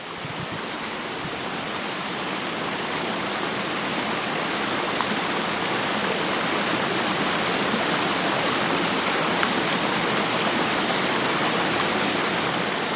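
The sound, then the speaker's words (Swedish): The powerful Hällingsåfallet waterfall in a nature reserve roars steadily throughout, a dense, unbroken wash of rushing water that stays loud from start to finish with no voices. “Vilken upplevelse, så kraftfullt vattenfall att dånet från det mäktiga fallet överröstade ens tankar.”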